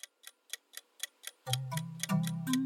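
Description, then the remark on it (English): A ticking clock timer, started for a lightning round of news, beats out quick, steady, evenly spaced ticks, and about halfway through a low sustained musical drone swells in underneath while the ticking continues. No one speaks. “if you'll start the clock for us”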